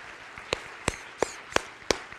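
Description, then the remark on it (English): Five sharp hand claps for the Lord at an Easter Sunday morning service at The Edge land in a steady, even rhythm about a third of a second apart, crisp and bright over a low, hissy background with no talking. “Let's give the Lord a good hand clap this morning.”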